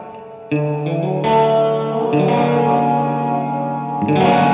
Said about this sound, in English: Is my guitar loud enough or too loud?